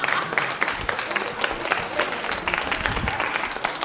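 Steady audience applause, given at the speaker's request, a dense wash of many hands clapping at once with no clear rhythm, fairly loud and continuous throughout, with faint crowd murmur mixed in.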